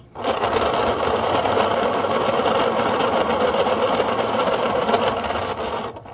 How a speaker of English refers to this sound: Once you've done that, you stick it in the pencil sharpener and get yourself a nice point on it, and then you can just snap off each piece.